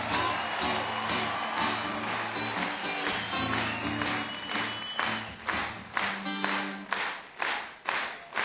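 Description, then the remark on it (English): A concert audience, at a show opening for a band, claps in unison on a steady, regular beat, sharp rhythmic slaps over a dense wash of applause and background noise, growing more distinct and punchy toward the end. “First of all, do it again, come on. Let's hear it, clap your hands, come on.”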